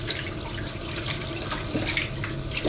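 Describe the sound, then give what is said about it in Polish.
Steady running tap water splashes continuously as hands dirty with oil and flour are washed, with brief irregular sloshing bursts as the hands rub and move under the stream; no voices. “Trzeba oczywiście umyć ręce, bo nam się zrobiły bardzo brudne od oleju i mąki.”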